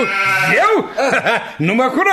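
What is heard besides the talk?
goat bleating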